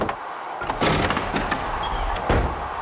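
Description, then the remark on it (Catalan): Wind pushes doors and bangs shutters, which rattle and bang irregularly, and rattles windowpanes: several sharp knocks and thuds over a steady, airy rushing background, moderately loud, with no voices. “Després, va seguir arrencant fulles als arbres i apagant els fanals de gas per després empènyer les portes, apunyegar els porticons, repicar els vidres i arrossegar qualsevol objecte que es topés pel seu camí.”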